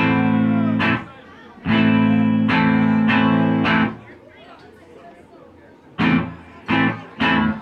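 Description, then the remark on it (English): A loud voice run through an echo effect on a PA system's monitors, each burst trailing off into a reverberant, slightly distorted wash before the next one. “cut that echo off. … don't want no echo”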